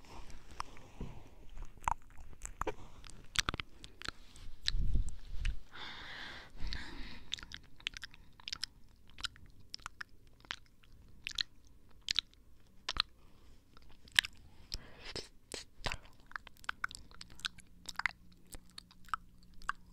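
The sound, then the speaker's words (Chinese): Wet, crunchy chewing and biting go on steadily, with sharp clicks and smacks scattered irregularly throughout and a soft squishy burst in the middle. No one speaks. “哦，好， 我要开吃了。”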